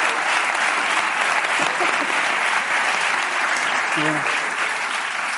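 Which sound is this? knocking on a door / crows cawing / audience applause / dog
audience applause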